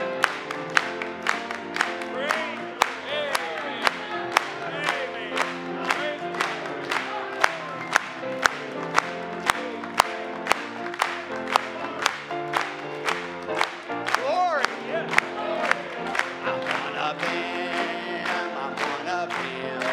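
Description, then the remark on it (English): An audience claps their hands together in a steady, even beat, sharp and loud over continuous singing and music, with crowd voices rising now and then. “Let's clap it to him.”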